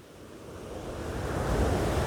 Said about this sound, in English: And with every breath, you feel this connection to the sound of the waves.